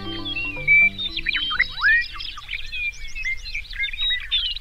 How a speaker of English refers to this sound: In summer, the grasslands of southern Saskatchewan resound with birdsong. Meadowlarks and bobolinks combine their voices in a rich, ringing chorus.